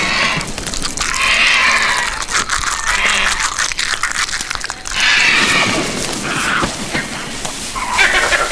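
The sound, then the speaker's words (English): A flock of video game ravens takes off to take the food, with harsh overlapping caws and rustling wingbeats in a dense, steady burst that swells and dips over several seconds. “And what you are hearing there, those birds fly up and basically take the food. It's called ravens or scarecrows.”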